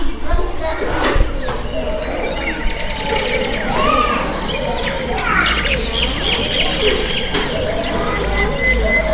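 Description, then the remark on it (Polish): Birds chirp and sing in an otherwise silent countryside village setting, with scattered tweets and warbling calls over a soft, steady background hum. “Jest zupełna cisza, ptaszki śpiewają. Gdzie to może być, Kasiu? Wsi. Na wsi, bardzo dobrze”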